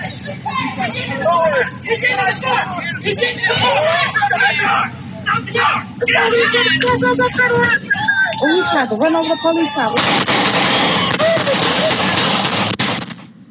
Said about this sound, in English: As you could hear there, the suspect ran from police, and the person on the porch even says he's trying to run over the police. Multiple officers shot at the suspect as he was pulling off, and this also didn't fare well for the suspect.